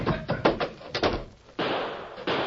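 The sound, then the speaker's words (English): A rapid run of heavy wooden bangs and thumps, loud, as a door bursts open and slams, then a steady rushing noise takes over; it is raining. “The door, Tonto. We'll jump for it.”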